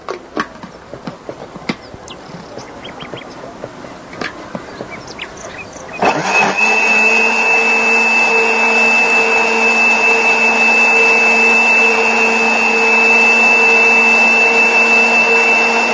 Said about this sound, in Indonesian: Ya, kemudian kita blender lagi.